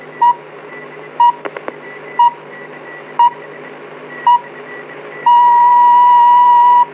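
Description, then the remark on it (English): A Capital Radio time signal on 1115 kilohertz, 270 meters medium wave: five short, evenly spaced high beeps about a second apart, then a loud, steady long tone marking exactly 1300 hours, all over a faint broadcast hiss. “At the beginning of the long tone, the time will be exactly 1300 hours.”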